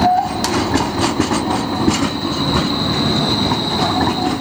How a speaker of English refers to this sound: The streetcar would instead be a fully enclosed, short string of rail-like cars powered by overhead electric wires and glide on a rail built into the street, like this streetcar in Portland, Oregon.